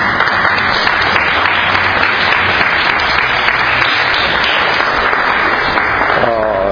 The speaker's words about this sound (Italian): Grazie padre, no, di pochi applausi, questo nella mia vita, guarda, mi ricorderò.